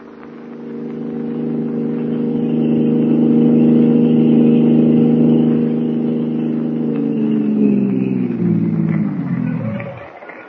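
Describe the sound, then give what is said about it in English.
A car engine hums steadily for several seconds, its pitch sliding down as the car drives off toward an apartment and the sound quickly fades out at the end. “My car, we should reach your apartment in a couple of minutes.”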